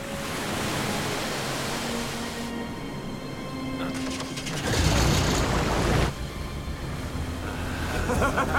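A motorboat engine drones steadily amid rushing water and spray as the boat drives among rocks towards an island, swelling louder for a couple of seconds midway before settling back into a constant hum.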